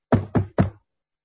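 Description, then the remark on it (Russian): Three quick, evenly spaced knocks on a wooden table, fairly loud, each a dull thud with a short decay, followed by silence. “Первым делом он постучал по столу.”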